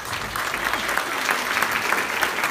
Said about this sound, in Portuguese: Salve de palmas.